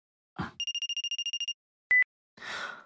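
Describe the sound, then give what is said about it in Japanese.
A phone ringtone sounds as a rapid electronic trill of about a dozen quick pulses, followed by a short beep, as an incoming call arrives, with brief rustling noises before and after. No one speaks. “あ、電話。あいつから。”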